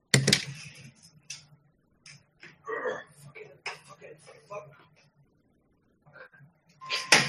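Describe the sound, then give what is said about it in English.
Loud clattering of plastic game console hardware being knocked over and handled, with sharp bursts at the start and again at the end, and a muffled voice talking in between. “God damn it, I just knocked over my game station.”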